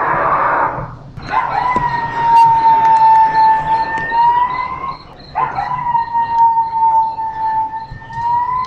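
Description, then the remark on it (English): A recording of a coyote plays on an interactive wildlife display at Mission Trails Regional Park: it howls twice, each call a long, steady, drawn-out note lasting several seconds with a brief pause between. The howls are loud, with no talking. “Let's go in now and listen to some of the interactive displays where you can hear wildlife of the region, such as coyotes, mountain lions, owls, hawks, eagles, and much more.”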